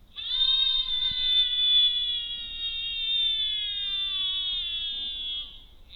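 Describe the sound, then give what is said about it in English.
A single long, high-pitched human scream, recorded with an £80 microphone and played back through a speaker, held steadily for about five seconds and sliding slightly downward in pitch before cutting off, with no talking. “That was recorded with the mic, and now we're going to play what the mic recorded.”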